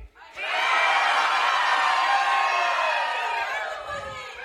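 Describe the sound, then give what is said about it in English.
An audience erupts together in loud cheering and whooping on a count of three, a dense wall of voices that starts abruptly, holds steady for several seconds, then begins to taper off. “They all just went, woo.”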